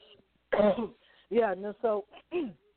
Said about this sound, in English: I have a stress response with coughing as well. It's partially part allergy and part stress response.